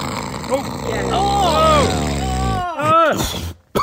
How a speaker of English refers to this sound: Honestly, our neighbours across the road can hear him snoring sometimes.